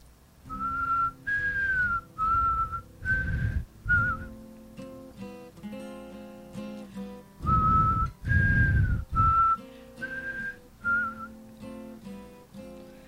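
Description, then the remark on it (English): Someone whistles a gentle melody by mouth at the start of a quiet song, clear, the tune rising and falling in short phrases with brief pauses between them, accompanied by soft low instrumental backing. “Start with the whistle. See if I have enough spit.”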